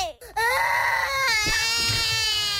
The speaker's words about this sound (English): This is what she sounds like normally all the time. The angriest toddler you could possibly have.